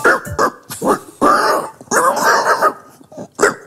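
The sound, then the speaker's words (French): A person imitates an amorous pig with a run of loud vocal grunts and squealy snorts, some short and choppy, others drawn out, in an irregular rhythm with no other speech. “Et après, bon, t'as le cochon amoureux.”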